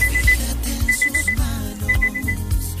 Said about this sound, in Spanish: No, y gracias porque puso la alarma, porque me toca mi pastilla.